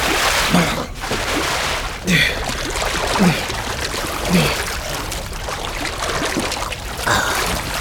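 Steady splashing of someone swimming through water after going over a parapet, with rhythmic strokes about once a second, fairly loud against a continuous watery wash.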